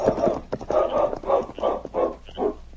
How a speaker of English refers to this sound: For a few minutes, the great dog King sniffed and whined at his master's side as Preston lay still on the trail.